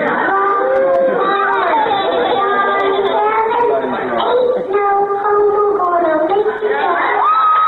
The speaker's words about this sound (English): And then the crowd goes wild. Wild.